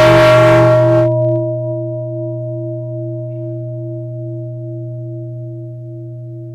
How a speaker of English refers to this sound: So let us listen to the bell and enjoy breathing before we hear the first question. 所以我们先听庆声，享受我们的呼吸。